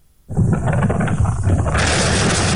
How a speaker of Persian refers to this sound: یک بار دیگر صدای انفجار و آتش‌سوزی، این بار در اصفهان و تبریز. هنوز اندکی از ساعت 5 صبح سپری نشده که صدای انفجار مهیبی در دل کوههای قائمیه در حاشیه زاینده رود می‌پیچد.